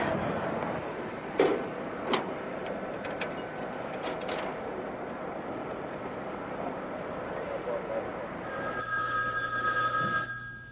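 A few sharp clicks over steady room noise, then near the end a telephone rings out with a steady, buzzy tone for about two seconds on an outgoing call to an office.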